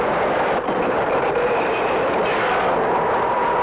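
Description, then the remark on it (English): A subway train out of Manhattan rumbles steadily along the tracks, a loud, continuous roar of wheels and car noise filling the whole stretch with no voices. “We gotta get off the subway.”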